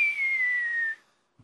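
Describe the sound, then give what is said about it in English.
A cartoon falling whistle: one bright, fairly loud tone glides slowly downward in pitch for about a second, then cuts off, followed after a short silence by a faint, dull thud. “Yeah, it's so far down I can't even hear the little Wile E. Coyote at the bottom.”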